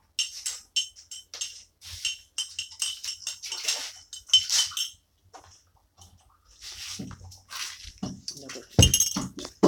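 Dishes and glassware clink and clatter repeatedly as they are washed, a busy run of sharp, bright knocks and rattles with a few louder bursts near the end.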